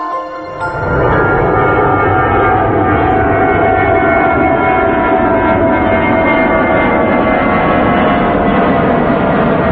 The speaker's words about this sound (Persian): صدای این جت رو میشنوید. این سرعت ساخت ایران تو سال 57 بوده. بله جت میره میره میره، بله اینطوری میخوره تو کوه دیگه.